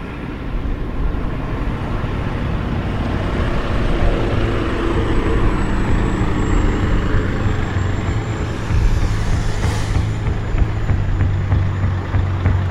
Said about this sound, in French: Je suis à la frontière serbe, je suis en Serbie là en fait. Il y a une file de camions dont le contenu se fait fouiller à la douane